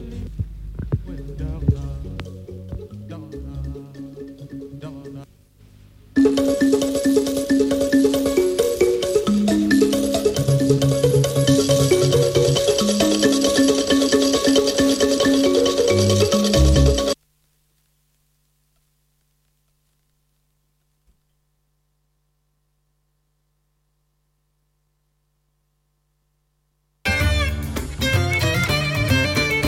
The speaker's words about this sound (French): La sonnerie retentit. Les élèves se rangent et montent en classe.